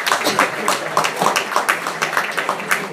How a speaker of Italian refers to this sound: Ecco, grazie. Applauso per l'arrivo delle pile.